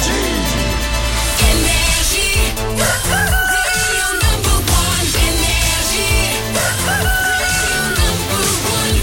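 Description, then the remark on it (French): A loud rooster crow rings out over a dense, busy musical backdrop, its drawn-out call repeating against steady layered music with no one talking, played at 6 a.m. on the radio station Énergie to open the day. “Qu'on amène le coq et qu'on ait vers cette journée.”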